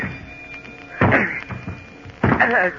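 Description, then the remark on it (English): Someone batters a jammed stateroom door aboard a ship, trying to break it down: two loud, heavy thuds about a second apart, with a couple of softer knocks and rattles in between, and no talking. “Don't seem to be able to open this door. But it's the only way out of here. It's jammed. Maybe I can break it down.”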